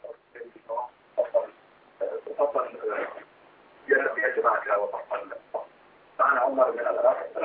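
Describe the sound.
Tinny, narrow-band telephone audio from a caller in Iraq carries a television playing in the background, its muffled voices coming through in uneven bursts with brief quiet gaps between them.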